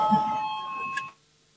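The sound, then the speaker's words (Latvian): A parliament voting bell, rung before a vote on a bill amending the Commercial Law in first reading, sounds in one steady, bright electric tone for about a second, then cuts off abruptly, leaving faint room murmur behind. “Lūdzu zvanu, balsosim par likumprojektu grozījumu komerslikumā pirmajā lasījumā.”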